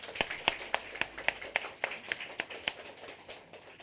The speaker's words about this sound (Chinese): 弟兄姊妹，如果是值得感恩的时候，我们给你掌声，我们的主。